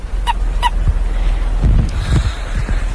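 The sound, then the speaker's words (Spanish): Two short, squeaky croaks from a common toad found on a road and picked up, evenly spaced in quick succession, followed by soft low rustling and handling noise. “estamos en el coche y de repente hemos visto algo que se movía en la carretera, hemos parado y era un sapo común, ¡mira qué mono! Hay que tocarle esto porque si no le podemos hacer daño. Pero a ver si suena.”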